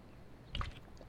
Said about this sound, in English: Sorry about this. I'm drinking water.